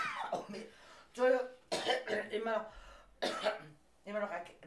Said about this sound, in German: immer noch Husten. Der Husten hält sich schweinehartnäckig. Ich hasse ihn. Aber nächste Woche ist er weg.